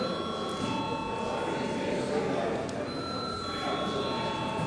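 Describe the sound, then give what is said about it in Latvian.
A voting bell in the Saeima, Latvia's parliament, rings steadily for several seconds before a vote on a bill amending the state security institutions law, a sustained high electric tone over a low background murmur of voices. “Paldies par ziņojumu, lūdzu zvanu.”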